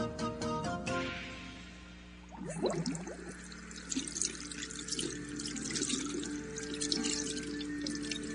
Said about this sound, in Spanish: Lavarse las manos con agua y jabón, hervir el agua, lavar las frutas y verduras y cocinar bien los alimentos son medidas higiénicas de ayer, de hoy y de siempre.